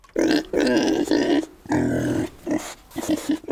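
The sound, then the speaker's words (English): A loud run of pig-like grunts and snorts, about five throaty bursts separated by short pauses, with no talking over them. “I am a pig.”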